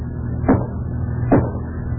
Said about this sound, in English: What are you banging on the wall for? Did you hear that? Yeah. Somebody knocked